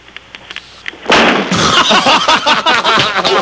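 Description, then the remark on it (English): After a few faint clicks, a front door is slammed with a loud, sudden bang for a door-slamming contest on the radio station WAVA, followed by a couple of seconds of harsh rattling and reverberating noise. “That was a slam.”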